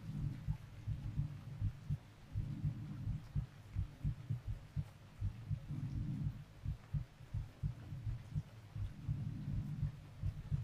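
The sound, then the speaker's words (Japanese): Steady, muffled heartbeats thump low, a continuous run of soft double pulses with a faint rumbling hum beneath, and no voices. “私の心臓の鼓動、私もさっきから聞こえてるよ。君の心臓の鼓動が。”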